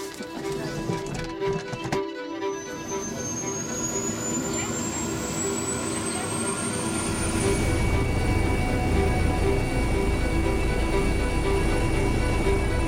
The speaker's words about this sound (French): L'hélicoptère fait route vers l'hôpital Édouard Herriot.